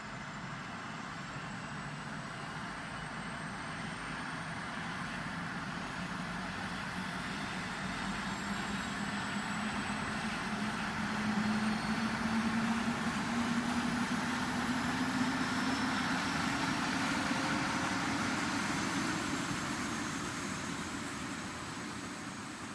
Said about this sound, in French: Bonjour, vous avez pris place à bord de l'avion à destination de Rio. Je vous prie de bien attacher vos ceintures. Attention au décollage.